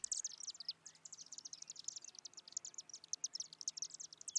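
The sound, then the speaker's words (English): A chimney swift's rapid, high-pitched chittering call runs continuously, a dense stream of sharp twittering notes with no voices present. “The chimney swift is such an interesting bird.”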